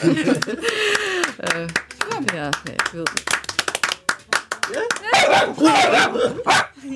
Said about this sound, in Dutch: En gaat Jérôme mee? Tuurlijk, die hoort erbij. Die blaft als mensen klappen, dus dat is dan heel feestelijk.